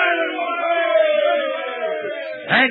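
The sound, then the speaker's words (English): A group of men on a boat cheer together, after a wave has carried their boat to shore and they are saved, in a long, sustained shout that holds steady, then swells into a brief louder whoop near the end. “Give a cheer, lads.”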